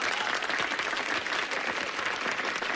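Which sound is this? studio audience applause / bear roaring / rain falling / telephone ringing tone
studio audience applause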